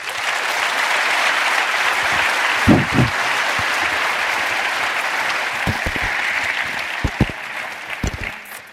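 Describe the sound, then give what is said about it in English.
An audience claps steadily for several seconds, a dense, sustained round of applause with a few louder individual claps standing out near the end, welcoming the speakers of a WikiLeaks talk by Julian Assange. “So if you'll please join me in giving them a warm round of applause, please.”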